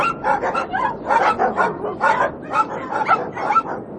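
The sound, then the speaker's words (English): A large pack of over 100 sled dogs barks and yips all at once, overlapping calls forming a continuous, fairly loud chorus with a few whimpers mixed in and no pauses. “You've got over 100 dogs here”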